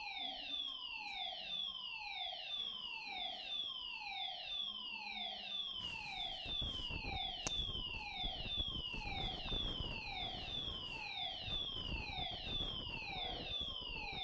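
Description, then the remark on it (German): A smoke detector alarm goes off during a sermon, blaring continuously, its shrill tone sweeping downward over and over in a quick, steady cycle, loud, with rumbling background noise joining midway. “Ah, der Rauchmelder ist angegangen.”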